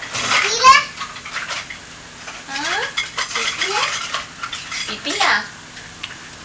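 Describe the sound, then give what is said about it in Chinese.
Dishes and a spoon clink lightly and irregularly as pretend tea, with no real tea, is made, a few bright taps and rattles spread over several seconds, with children's voices speaking Cantonese chiming in between. “我饮杯茶嚟 咯，系咯，冇咩真茶嚟噶。哇，闻得好乖，或者是攞水壶嚟咯喎。”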